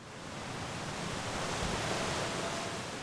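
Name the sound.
rushing river rapids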